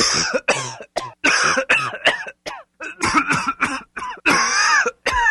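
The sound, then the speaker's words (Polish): A series of forced coughs and throat-clearing bursts made on a doctor's command during a medical examination, around a dozen short harsh hacks in uneven rhythm, some clustered, loud and raspy, with no talking. “Zakaszleć.”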